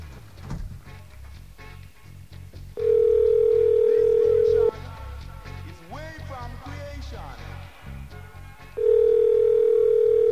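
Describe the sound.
A loud, steady telephone line tone holds for about two seconds, stops while a voice speaks briefly over low background rumble, then the same flat tone returns and runs to the end.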